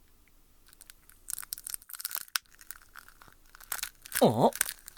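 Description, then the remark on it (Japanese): An egg of an unknown kind, never seen before, cracking open as it hatches: irregular bursts of dry, crisp crackling and crunching, growing louder toward the end, where a short voiced cry briefly sounds over the cracks. “まさか孵化しようとしてるのか、こんなところで。”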